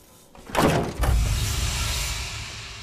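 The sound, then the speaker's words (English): An office door marked International Department bursts open with a sudden loud sweep and a heavy thump about half a second later as two women walk out, then a steady low rumble lingers underneath with no voices. “The door flies open, and two women walk out deep in conversation.”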